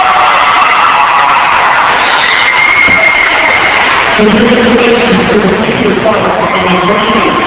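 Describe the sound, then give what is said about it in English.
A big crowd cheers loudly and steadily as the Litchfield Panther Cubs come out after winning the 3A state basketball championship, a dense roar of voices with shouts and high whistle-like cries rising over it for the whole stretch. “Here come the Panther Cubs. Listen to the reaction.”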